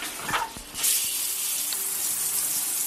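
Water runs steadily from a shower in a bathroom, an even hiss that swells up loudly after a brief moment and then holds constant. Nobody speaks.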